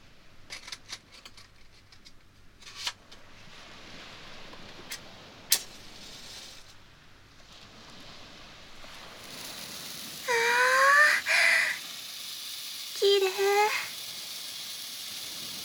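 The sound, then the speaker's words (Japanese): A handheld firework sparkles and crackles with scattered sharp pops and a steady fizzing hiss, joined later by two brief, louder rising tonal wails. “この音、見た目もあってお星様のシャワーみたいです。”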